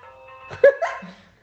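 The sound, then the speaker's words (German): A landline telephone rings with a steady electronic tone of layered pitches as a friend calls, cut across midway by a short, sharp, bark-like burst before the ring fades out. “Hast aber lang klingeln lassen, du.”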